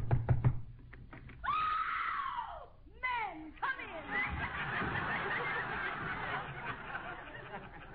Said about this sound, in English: Well, here's Tessie Tinfoil's house. I hope she's home. Go ahead and knock.